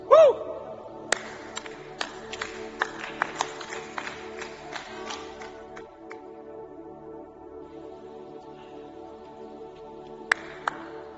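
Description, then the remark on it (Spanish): Scattered audience applause after a prayer: irregular sharp claps crowd together in the first few seconds, then thin out to occasional claps over a steady low hum, with no one speaking. “Si has hecho esta oración conmigo, da un aplauso bien fuerte y levanta tus manos.”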